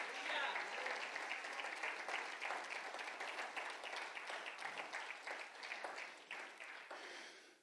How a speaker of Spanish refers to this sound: Denle un fuerte, fuerte aplauso a Cristo, hermano.